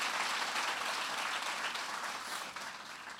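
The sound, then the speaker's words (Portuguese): An audience applauds Jesus during a sermon, steadily, a dense wash of many hands clapping together that holds for a few seconds before tapering slightly near the end, with no talking over it. “Aplauda Jesus.”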